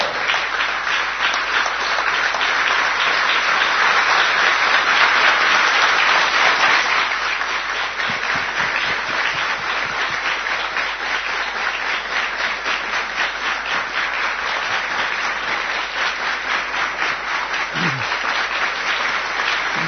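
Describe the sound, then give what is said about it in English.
A crowd applauds steadily for the whole stretch, a dense wash of many hands that thins slightly after the first few seconds into more distinct, individual claps. “I didn't ask just to clap.”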